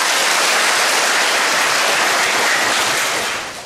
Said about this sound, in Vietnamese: Quá giỏi, cho một tràng pháo tay.